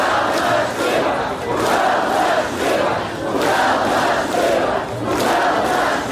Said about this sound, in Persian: در این نمایش اعتراضی هزاران نفر شرکت کردند که در تاریخ شهر بی سابقه است. گفته می شود که در اعتراض امروز از 15 تا 50 هزار نفر اشتراک کرده است. آنها راههای اساسی شهر را بستند و در نزد شهرداری شعار دادند.